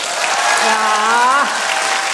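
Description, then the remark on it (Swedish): A live audience claps steadily in a dense, sustained burst of applause, with a voice briefly rising above the clapping partway through. “Ska vi fråga lite, hur många här lyssnar på podden? Applådera.”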